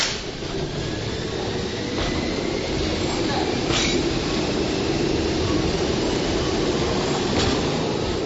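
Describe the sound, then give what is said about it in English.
A steady, broad rumble of a Rigi Railway mountain train standing at the Rigi station in the village, with faint squeals and brief metallic clicks cutting through, and indistinct voices murmuring in the background. “We're talking about the Rigi Railroad. Let's go over there and see it.”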